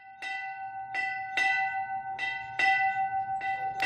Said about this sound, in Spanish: Su sonido es inconfundible. Estoy seguro que la imagen que a todos se nos acaba de venir a la cabeza es la de un campanario, de una iglesia, de una parroquia. También esa escena de su campanero golpeando ese gigante, ese instrumento metálico.